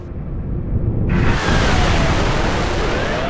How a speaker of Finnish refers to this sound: Kello 15.16 kuuluu kova pamaus ja turbiini rääkäisee. DC-10 tärisee ja rytisee.